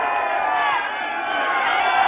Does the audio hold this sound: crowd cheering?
yes